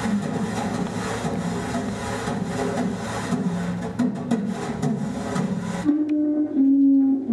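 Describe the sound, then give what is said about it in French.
Two dishwashing brushes scrub and swish rhythmically across a cardboard sheet used as a drum kit, in a steady, scratchy groove, then the brushing stops near the end and only a low, sustained tone remains. “C'est une plaque de carton avec deux brosses pour faire la vaisselle.”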